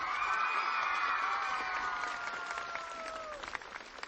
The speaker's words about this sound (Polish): Kochani, i tym samym rozpoczynamy naszą ogólnopolską pielgrzymkę podwórkowych kółek różańcowych dzieci do Matki Bożej Królowej Polski na Jasną Górę. Brawa dla Matki Bożej!